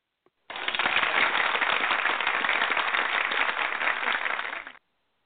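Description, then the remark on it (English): A burst of applause lasting about four seconds, dense, crackling claps at a steady, fairly loud level that start abruptly and cut off just as suddenly, with no voices. “Okay, I heard the applause, but I don't hear you.”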